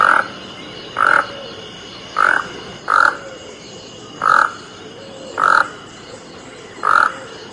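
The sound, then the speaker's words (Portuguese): A toco toucan (Ramphastos toco, the tucanuçu) gives seven harsh, croaking calls at a fairly steady but uneven pace. Each call is short and raspy and stands out loudly over a low hiss of background noise. “No Brasil, vivem várias espécies de tucanos, destacando-se o tucanussu, o Ranfastus toco.”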